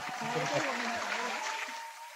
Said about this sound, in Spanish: Ahí sí, ¿no? Ahí aplaude, sí. Aplaude.